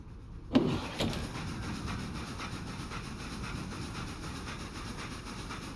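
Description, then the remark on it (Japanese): A sharp clunk opens into the steady rumble of a moving train, heard from aboard through a slightly opened window on a fine day, with a faint rhythmic clatter of wheels on rails running evenly underneath. No one speaks. “列車の音に耳を澄ませながら、ゆっくりゆっくり力を抜いてリラックスしてくださいませ。”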